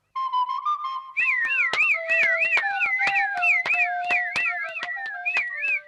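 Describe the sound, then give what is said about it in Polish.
A fujarka, a shepherd's pipe, plays a steady held note, then breaks into a quick, wavering, high-pitched trill that repeats over and over, with sharp rhythmic clicks tapping beneath it. “A cóż to, fujarka?”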